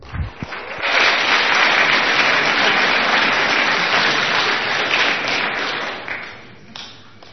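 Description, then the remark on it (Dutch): Warm audience applause on a game show as a contestant is introduced, swelling within the first second into a dense, steady wash of many hands clapping, holding strong for several seconds before tapering off near the end. “Geef een warm applaus”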